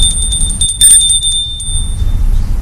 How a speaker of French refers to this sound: À l'entrée, se trouve une petite maison sans âge, à un étage, qui est la maison du garde. Sonne à la porte